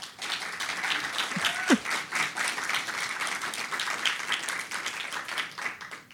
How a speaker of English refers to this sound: So please give us a warm round of applause for our two guests today.